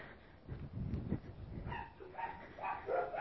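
Dogs bark and yip in quick, overlapping bursts to greet their owner arriving home, starting with low, muffled woofs and turning into higher, excited yelps, with no talking.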